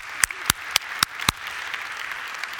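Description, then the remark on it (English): An audience at The Orchard church community in Aurora, Illinois, applauds at a morning service: five loud, evenly spaced claps ring out first, then fade into a softer, steady wash of crowd clapping with no voices on top. “Come on, clap like, come on.”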